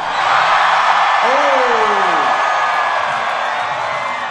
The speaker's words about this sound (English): That's a loud crowd.